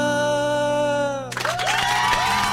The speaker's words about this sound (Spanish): Mirá cómo se reproducen los aplausos, ahí se escuchan.